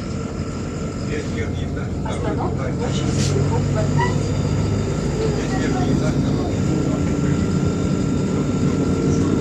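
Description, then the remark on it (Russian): A bus drives along with a steady, loud low engine rumble that holds throughout, with faint voices murmuring beneath the drone. “Это автобус. Он же туда едет.”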